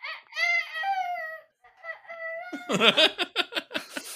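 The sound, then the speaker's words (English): A young child's high, wavering voice imitates a rooster crow in two drawn-out calls, then dissolves into a quick run of breathy giggles. “They're doing the rooster voice.”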